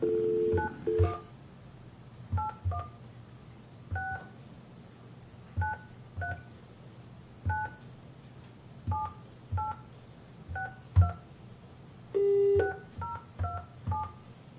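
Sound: telephone keypad dialing tones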